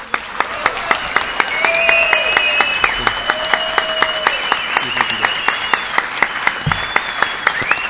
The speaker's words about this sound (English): I'm sure you can hear all the rounds of applause.